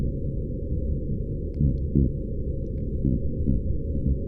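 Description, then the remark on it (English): Cod grunting underwater: a few short, low, subtle grunts rising only slightly above a constant deep rumble of background noise, with no voices. “Let's listen to cod now, because this is an even more subtle kind of sound that they're making.”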